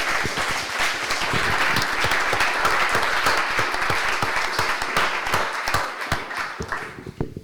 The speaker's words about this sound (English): Thank you very much for being here, and a big applause